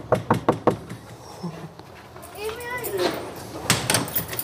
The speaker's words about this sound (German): Ich muss mal gucken, ob sie da ist. Wir klopfen mal an.